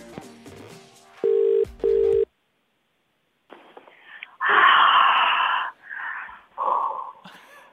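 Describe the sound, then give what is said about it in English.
A radio host phones a listener: a quick run of phone keypad tones gives way to a loud double ring burst, then a brief silence before the person answering gives a long, loud breathy yawn or sigh. “Let's do it now. I'm going to make a call.”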